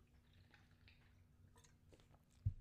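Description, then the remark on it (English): Someone takes a swig of water: quiet wet mouth and lip sounds, then two soft, heavier gulps at the end. No one speaks. “Sorry, I had to get a swig of water.”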